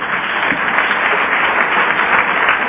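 An audience applauds steadily, a dense, even wash of many hands clapping at a fairly loud level without pause for a few seconds, with no voices heard above it.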